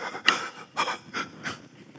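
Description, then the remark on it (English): A voice imitates 13 men panting heavily: four breathy, rasping huffs in a steady rhythm over two seconds, moderately loud, with no words spoken. “A great calm. 13 guys panting. That's all you hear.”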